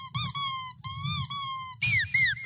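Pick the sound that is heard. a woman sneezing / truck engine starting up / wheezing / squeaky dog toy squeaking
squeaky dog toy squeaking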